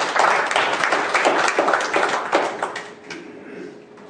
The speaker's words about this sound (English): Give the Lord a hand of applause and thanks.